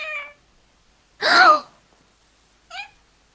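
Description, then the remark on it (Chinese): A person mimics a cat meowing in three short calls: a brief one, then a louder, longer, breathy meow, and a quick faint one after a pause, with no talking. “喵。 哎呀，不要赛博猫猫， 叫的不像。”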